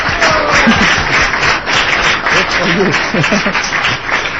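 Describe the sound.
An audience applauds a child under eight years old who has come up to the front, with dense, steady clapping that stays loud for the whole few seconds, with some voices mixed in underneath.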